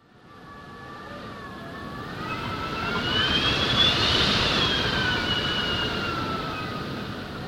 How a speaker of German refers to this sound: Der Wind heult und pfeift, Sandkörner stechen wie Nadeln auf der Haut, dringen in Ohren und Nase ein und reizen die Augen. Ein ausgewachsener Sandsturm auf echten Sanddünen.